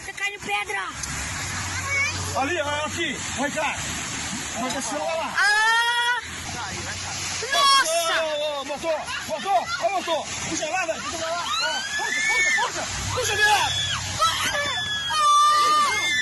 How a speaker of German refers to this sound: Auf den Bildern ist zu sehen, wie sich der rotbraune Fels erst langsam bröckelnd löst, bis plötzlich ein tonnenschwerer Teil aus dem Canyon bricht und in den See stürzt. Die Menschen auf den weiter entfernten Schnellbooten versuchen noch zu warnen.